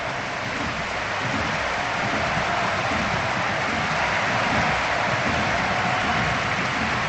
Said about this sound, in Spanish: No corean. No, solo hay aplausos, no es fácil, pero la ovación es atronadora. Se va Lewandowski, que ha marcado dos goles, que ha podido marcar más,